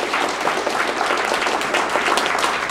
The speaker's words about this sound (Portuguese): Então, vamos dar uma salva de palmas a vocês, né, que deslocaram, vieram para esse evento.